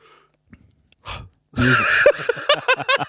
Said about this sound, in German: Entschuldigung, ja, ich habe immer mal gegähnt. Ist nicht böse gemeint.